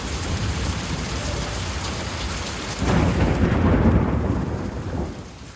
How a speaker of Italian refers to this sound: Piove, senti come piove, Madonna come piove, senti come viene giù.